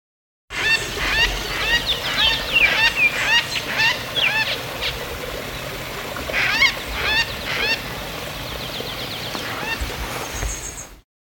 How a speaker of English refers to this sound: Recordings of Greater Vasa Parrot in flight, 7:15 in the morning, 20 September 1998 at Pyrenees, flying across the forest. We're at 825 meters. It's starting to clear. It's been very foggy this morning. Temperature's about 60 degrees.